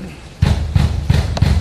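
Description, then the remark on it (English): Four heavy, booming thuds strike at a steady pace as FBI agents pound hard on Roger Stone's door in Fort Lauderdale in the morning, loud with a dull low-end weight to each blow. “There's a moment of audio on here that I want to play for everyone, because this is what the first sounds that Roger Stone woke up to this morning was the FBI pounding on his door and shouting this.”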